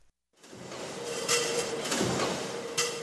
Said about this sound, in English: GR Spring and Stamping in Grand Rapids, Michigan makes the parts of your car that you never see. Little metal plates that hold your door together, or your bumper, or your muffler. And it takes huge machines to pound out these parts. 600 tons huge.